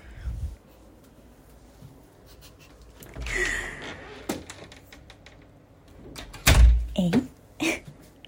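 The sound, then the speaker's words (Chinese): A door is opened to collect delivered nasal-spray medicine: scattered clicks and a latch rattle, then a louder thump as it shuts, with faint shuffling and low murmuring voices in between. “好，那你先去开门拿药好吗？”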